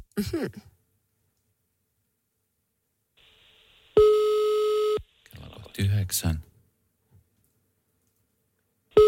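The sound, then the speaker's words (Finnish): A telephone ringback tone for Radio Nova's summer-morning phone call in Finland sounds once as a loud, steady beep lasting about a second, with a second beep just starting at the end; a man speaks briefly before and after it. “Noniin, piippaa. Se on hyvä. Puhelin päällä.”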